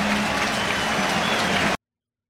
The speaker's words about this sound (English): The 2-2 pitch. Swing and a miss. He struck him out. Breaking ball down and away. And what a start for the Miz here this afternoon. Listen to this crowd.